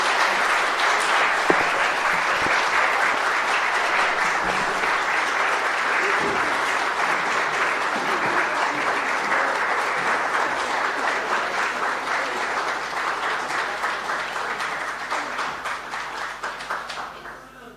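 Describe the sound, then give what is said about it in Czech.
Sustained audience applause after a contribution to a Christmas program: dense, steady clapping from many hands, loud and even for most of its length, thinning into more distinct individual claps as it tapers off at the end. “Vyjádřili jste to potleskem, to k tomu patří.”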